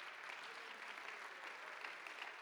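audience clapping hands

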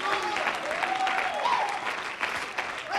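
audience clapping hands

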